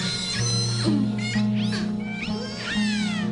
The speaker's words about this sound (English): The other kind of sounds that the whales make, these very shrill, metallic-sounding squeals and screams, tend to be for communication between individuals in a group and between groups.